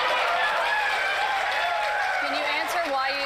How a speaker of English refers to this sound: And of course, the sycophant crowd cheers.